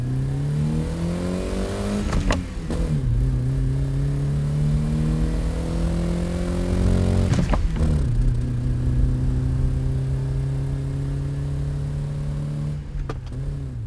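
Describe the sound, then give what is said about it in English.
A car engine drones steadily, its pitch climbing and sagging as it revs, with sharp shifts around the two, seven and thirteen second marks like gear changes. “It's not uncommon for an enthusiast to drive for hours at a time without listening to the radio, without listening to anything but the sound of the motor.”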